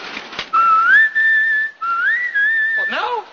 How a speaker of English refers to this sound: Well, whistle when you're ready.